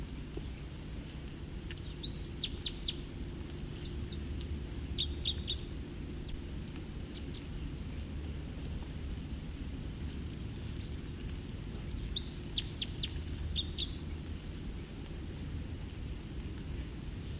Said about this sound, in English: Start recording song again. Probably the same bird.